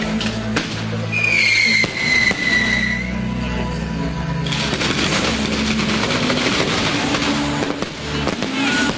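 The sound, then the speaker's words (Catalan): A carnival's closing fireworks display goes off in a dense, continuous barrage of bangs and crackles, with a high whistling streak rising early on, loud and sustained throughout. “Va tirant, però déu-n'hi-do, ha durat, aquest castell de focs.”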